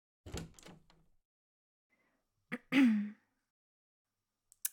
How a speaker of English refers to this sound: Oh yeah, great. Now he knocks. Come on in.